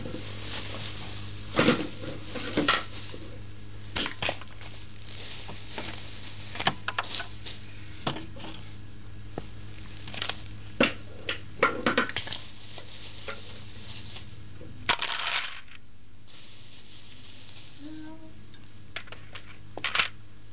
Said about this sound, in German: Gewaltige Manipulation mit dem Papierkorb.